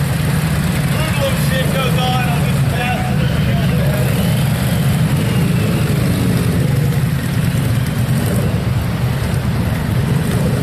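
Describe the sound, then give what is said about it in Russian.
Motorcycle engines of young men riding motorcycles rumble steadily and loudly, a continuous low growl that barely changes over ten seconds, with faint voices mixed in underneath. “Вот, друзья, тут пацаны на мотоциклах ездят.”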